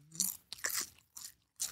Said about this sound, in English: We got snacks. We be snacked up, baby. I'm snacking. Get you. You know what I mean? Get you some chips. I'm snacking cold.